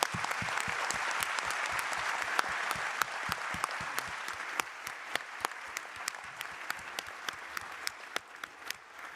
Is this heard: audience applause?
yes